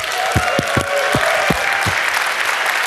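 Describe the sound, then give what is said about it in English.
An audience applauds steadily and loudly throughout at the start of a live show, a dense wash of clapping, with a handful of dull low thumps, about six, punctuating the first two seconds. “Everybody, a round of applause, come on!”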